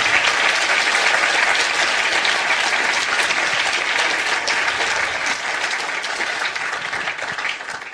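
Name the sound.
audience applause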